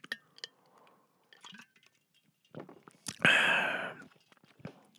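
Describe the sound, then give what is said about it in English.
A sip of water from a glass: faint clinks and small mouth clicks, then a loud, breathy slurp lasting under a second, followed by a few soft swallowing clicks. “I got to take another sip of water, and then we're going to get this thing done.”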